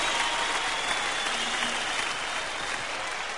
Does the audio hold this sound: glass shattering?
no